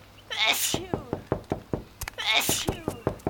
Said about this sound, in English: A few minutes later,Bear heard someone sneezing.